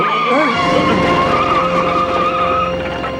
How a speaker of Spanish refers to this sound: El coche de los espías llega y saliéndose de la carretera sortea el helicóptero y continúa viaje.